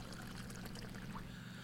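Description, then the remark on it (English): Gasoline pours steadily onto a pile of trash in a soft, continuous splashing stream, over a low background rumble, with no voices. “pile up some of that trash in your spot and your dad's going to pour a little gas on it.”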